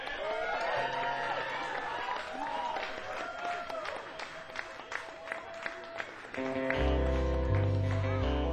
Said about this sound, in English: They were in the UK for a while, so this is their welcome home show. So we need to give them a huge round of applause.